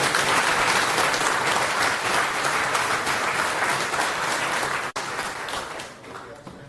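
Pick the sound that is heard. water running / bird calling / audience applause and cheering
audience applause and cheering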